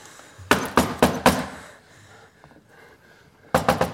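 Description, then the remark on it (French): Heavy pounding on a locked door: a rapid burst of four loud thuds, a pause with faint rustling, then another quick series of three or four forceful bangs. “Elle est fermée ?”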